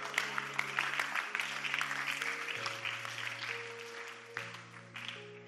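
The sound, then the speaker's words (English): A crowd claps steadily and continuously for several seconds while sustained keyboard or organ chords hold underneath, shifting pitch a couple of times; no one speaks. “You're not clap for the Lord.”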